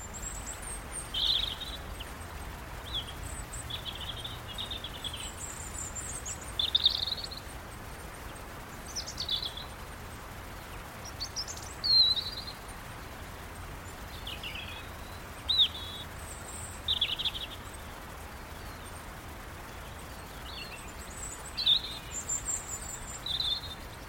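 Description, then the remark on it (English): Short bursts of high bird chatter and chirps, with some of the birds' wing movements, recur every few seconds over a steady, hissing wash of wind in the trees and a river flowing near a house. No voices. “including birds chattering and captures some of their wing movements as well”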